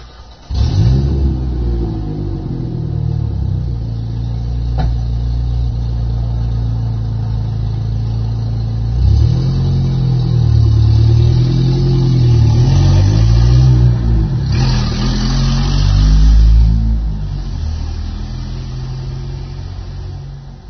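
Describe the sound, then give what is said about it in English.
A truck engine idles with a deep, steady rumble, then revs up several times, the pitch rising and falling in loud surges before settling back. “That way, well, let's just go see how the truck sounds.”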